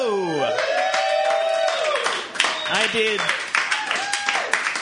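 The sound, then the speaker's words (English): An audience in San Francisco bursts into steady, dense applause mixed with cheers and rising whoops, the clapping thinning into scattered claps toward the end. “I did not say applaud.”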